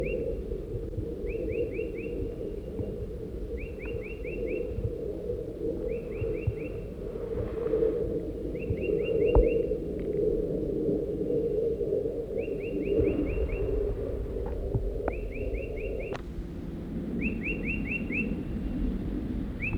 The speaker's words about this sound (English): They're at the crossbill nest.